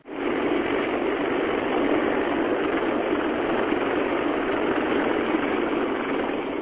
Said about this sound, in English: A giant CH-53 Super Stallion military helicopter hovers 3 meters off the ground as it unloads its cargo of troops at a remote beach in northern Djibouti.